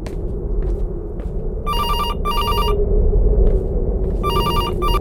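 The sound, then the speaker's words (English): A phone rings with a call from an unrecognized number, in two double bursts, each a bright, warbling electronic trill with sharp harmonic tones, over a steady low background rumble. “My phone didn't recognize your number.”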